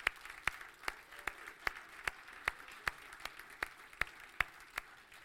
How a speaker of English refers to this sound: Those have been baptized in the last 10 years. We can clap for those guys.